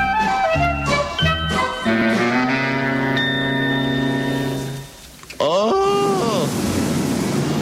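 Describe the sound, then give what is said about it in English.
Hot tub jets set on high churn water with a loud, steady rushing roar that kicks in suddenly after a stretch of tonal, sliding vocal sounds, a voice still gliding over the bubbling surge; the hot tub is on an upper balcony. “Oh, the swirling water. I have the jets on high.”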